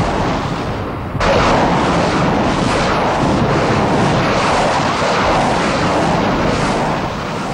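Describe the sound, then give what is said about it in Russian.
A Soviet Katyusha rocket barrage at Stalingrad, opening the artillery preparation of Operation Uranus: after a second of quieter rumble, a sudden, loud, unbroken roar of rockets launching in rapid succession, rushing hiss over a deep rumble, with no voices. “«Катюши» открыли огонь.”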